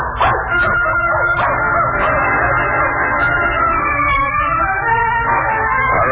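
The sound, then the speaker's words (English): A dog barks and yips continuously for several seconds, loud, in a dense, overlapping chorus of excited high-pitched cries with no one talking. “Now she's entered in the annual dog show Monday at the Garden.”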